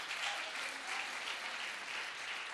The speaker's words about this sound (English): Somebody ought to clap their hands today because that's our testimony.